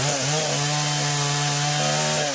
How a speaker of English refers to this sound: You might well have heard the sound of a chainsaw in a story about Amazon deforestation 1,000 times. But this chainsaw in the Brazilian state of Maranhão isn't being used to cut down trees. It's being used to destroy a wooden timber hauler